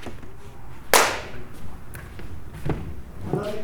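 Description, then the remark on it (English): A film clapperboard snaps shut once on a film shoot, marking take 1 of scene 6, with a sharp, loud wooden crack, followed by a few faint knocks and a low murmur of voices in the background. “Another clap, please.”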